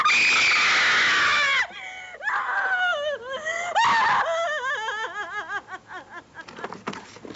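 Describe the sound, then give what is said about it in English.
A stoned girl lets out a loud, piercing scream for over a second and collapses to the ground, followed by shaky, wavering vocal cries and breathy laugh-like sounds that gradually trail off, with no speech. “She screams and like collapses to the ground.”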